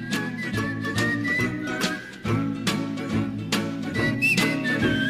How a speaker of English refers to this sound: This kind of shuffle beat, there's somebody whistling in it, and it's just so catchy.